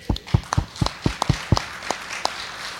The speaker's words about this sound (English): Weekly prayer in 40 schools in the greater Toledo area is happening. That, I think that is a clap thing.